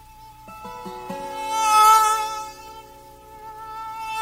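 A fly buzzes in a steady, droning hum that swells louder midway through before easing back, with no one talking.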